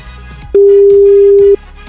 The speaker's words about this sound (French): Attention, le téléphone sonne, faut décrocher.